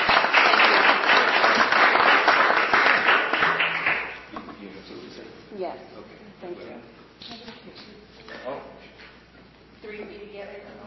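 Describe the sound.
Loud, dense applause from an audience fills the first four seconds, then fades quickly into a few scattered claps as voices begin talking.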